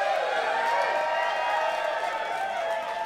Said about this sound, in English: And everyone in the crowd who's here tonight and all those I've been seeing the past couple nights for the last month, give us a fucking round of applause. You make it all worthwhile.